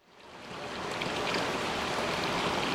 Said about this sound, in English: It sounds like a soothing stream, and water is rippling over smooth rocks. But the light reflected in the water shines from fluorescent bulbs.